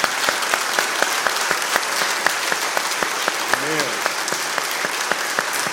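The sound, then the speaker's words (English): A crowd gives God a hand clap, applauding steadily, a dense wash of many hands clapping with sharper individual claps popping out. A single voice speaks briefly partway through. “And before I close this, let's give God a hand clap for what God has done for us today.”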